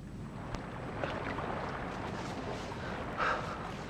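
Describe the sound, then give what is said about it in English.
A boat slides down a riverbank into the water, seemingly by itself, moved by Frodo after he has put the ring on; a steady rough scraping and rushing wash with a brief splashy surge near the end, with no voices. “Oh, what's that boat doing? Sliding down the bank all by itself.”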